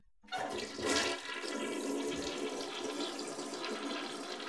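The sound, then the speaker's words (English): A toilet flush sound effect: a sudden loud rush of water that surges, then settles into a steady swirling drain and refill. No one speaks. “That was what … by ….”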